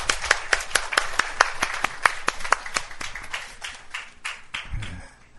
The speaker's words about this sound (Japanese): はい、感謝、もう一度拍手して。